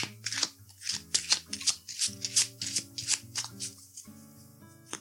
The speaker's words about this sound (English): Okay, so let's shuffle these cards and see what we should affirm today.